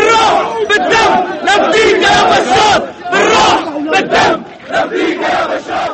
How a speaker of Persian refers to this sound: دو انفجار مهیب جنوب دمشق، دود سیاه بر فراز پایتخت و آنچه پس از انفجارهای بامداد پنجشنبه بر جای ماند، بیش از 40 کشته و بیش از 170 زخمی، و این هم جمعیتی که پس از انفجارها در محل گرد آمده.